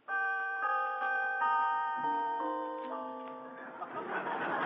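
doorbell ringing

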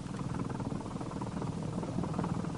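propeller airplane engine running

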